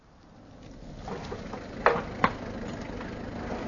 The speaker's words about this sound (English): A car's just driven up.